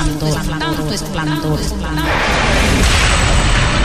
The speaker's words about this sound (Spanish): Pero un día mis sueños fueron interrumpidos por unos disparos que no cesaban.